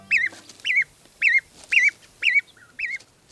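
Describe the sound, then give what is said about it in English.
Goslings (baby geese) leaving the nest peep in a steady series of about six high, wavering calls, evenly spaced roughly half a second apart, clear with no talking. “These baby geese, or goslings, are leaving the nest.”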